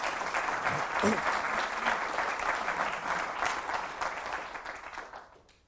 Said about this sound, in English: Ladies and gentlemen, a round of applause for the panel, please.